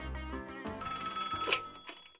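A telephone bell rings, a bright, rapid metallic trill lasting about two seconds with a low thump at the start, then stopping abruptly. No one speaks.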